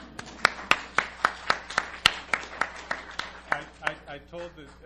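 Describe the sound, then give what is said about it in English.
Steady, evenly spaced claps ring out in a quick rhythm, sharp, thinning toward the end as a voice begins to speak; an audience clapping for Eleanor Roosevelt at a presentation. “Here, let's clap for Eleanor.”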